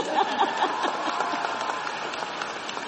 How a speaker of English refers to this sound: In one term, he has already, yes, you may clap.